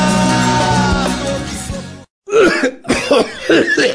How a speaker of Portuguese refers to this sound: Interrompemos esta tosse para um comunicado importante sobre a tuberculose.